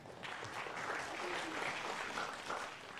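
A short burst of light, scattered clapping from a small group, steady and fairly soft throughout, with no voices standing out over it.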